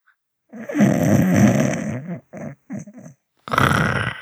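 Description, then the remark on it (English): A person imitates snoring as an impression of their dad, with a long, rough, rattling snort, followed by a few short guttural bursts and a final breathy rasp, fairly loud. “Are you snoring? That's a good snore sound.”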